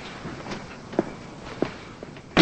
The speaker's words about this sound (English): Yeah, shut the door.